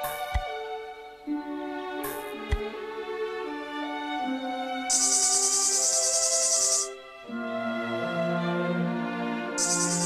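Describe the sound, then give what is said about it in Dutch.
A shrill, buzzing tree cricket trill comes in two bursts, a long one midway and a shorter one at the end, over sustained, harmonic musical tones. No one speaks. “Goedemiddag, schreeuwde een boomkrekel die zich aan een tak vasthield.”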